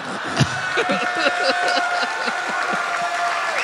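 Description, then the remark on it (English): An audience claps steadily and loudly throughout, a dense patter of many hands with some scattered laughter and crowd murmur mixed in, and a faint tone humming in the background. “You guys, don't applaud like he came up with that originally.”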